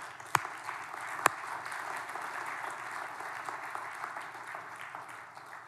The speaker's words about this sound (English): So let's clap a little bit louder. Maybe they'll come out.